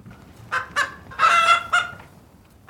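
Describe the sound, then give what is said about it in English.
Chickens cluck and squawk in a short burst of bright, nasal calls: two quick clucks, a longer drawn-out squawk, then one more cluck, over a low background hum. “And it would definitely help these chickens.”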